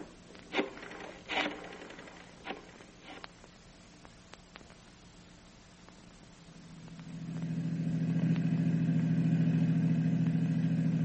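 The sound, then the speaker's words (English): A few sharp clunks and knocks sound first, then a car engine turns over and settles into a steady, loud idle drone, kept running while someone stays in the car, continuing to the end. “Want me to stay in the car? That's right. Keep the engine running.”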